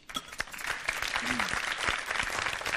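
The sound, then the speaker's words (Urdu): A crowd breaks into loud, sustained applause to encourage a Team C member who selected a dish, a dense wash of rapid hand claps that swells quickly and stays strong throughout, with a brief voice rising faintly beneath it. “ان کی بھی حوصلہ افزائی ہو جائے زوردار تالیوں کے ذریعے.”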